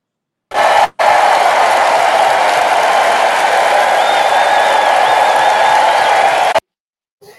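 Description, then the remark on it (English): A canned applause sound effect: dense, steady clapping from a crowd lasting about six seconds, with faint whistles or cheers riding on top, then cutting off abruptly. “And I think we have to officially roll out the official applause.”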